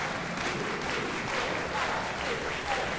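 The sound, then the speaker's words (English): An audience claps together, two claps per beat while counting to eight, in a dense, steady wash of hand claps that holds an even loudness for about three seconds, with faint pulses hinting at a quick, regular rhythm. “So now I want you to count from one to eight and say stop, but now do two claps per beat.”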